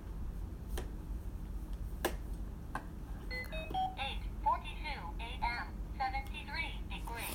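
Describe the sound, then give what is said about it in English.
A few sharp taps or clicks, then a teardrop-shaped talking clock, which talks when touched, announces in a tinny, synthetic voice '8:42 a.m., 73 degrees Fahrenheit' in a short burst of speech over a steady low hum. “I have a talking clock over here that says the time. It's a teardrop-shaped clock, and if you touch it, it talks to you.”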